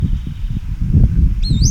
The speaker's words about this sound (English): Bird is sitting up like the male that gave the song previously.